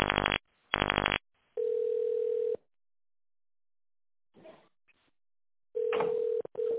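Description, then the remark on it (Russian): A telephone ringback tone heard while on hold with the company Tochnye Mashiny: a steady low-pitched beep lasting about a second, a long silent gap, then the beep again, opening with two short buzzy bursts. Faint line noise, no voices. “Пожалуйста, дождитесь ответа специалиста или наберите внутренний номер абонента”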